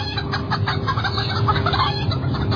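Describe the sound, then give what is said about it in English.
A chicken squawks and clucks in a rapid, agitated run of calls filling the whole stretch, loud over a dense, muffled background, with no one speaking. “Oh, was that like a squawking chicken at the end?”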